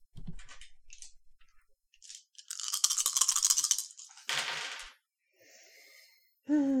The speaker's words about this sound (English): For your miracle having the effect you want it to have, let's roll charm plus graces 5 dice.